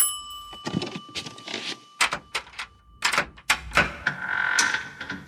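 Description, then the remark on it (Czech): A doorbell rings with a steady, sustained tone at the Šavrda family's apartment in Ostrava in spring 1988, while a door clunks and rattles open with several sharp knocks and thuds. “A o 4,5 roku později, bylo to na jaře, v roce 1988 u ostravského bytu Šavrdových zazvonil zvonek.”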